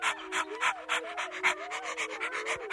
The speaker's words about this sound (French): Dehors, le loup qui avait couru très vite reprenait haleine.